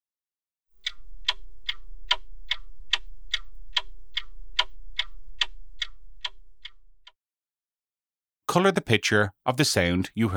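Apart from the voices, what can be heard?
clock ticking tick-tock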